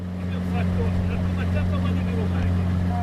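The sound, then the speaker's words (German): A motorboat engine drones steadily at a low, even pitch throughout, fairly loud, while voices talk over the constant hum, as the boat travels across the Valli di Comacchio, a brackish lagoon in Italy, its greenish water lightly rippled by wind. “Unterwegs im Motorboot auf den Valli di Comacchio.”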